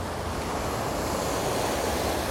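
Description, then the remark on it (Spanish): Ocean waves breaking in Puerto Rico, a steady, rushing wash of surf that fills the whole clip evenly, broad and hissing with no distinct individual crashes and no voices. “Esa belleza, esas olas así, wow.”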